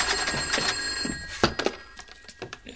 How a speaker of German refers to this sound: Telefon!